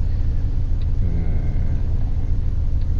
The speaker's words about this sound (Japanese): 渋滞を迂回しようとする車、それから対向車が来て、横の道に入っていこうとするんだけど渋滞で入れないっていうことで止まっちゃってる対向車とかね、いろいろありますね。右往左往してますね、皆さん。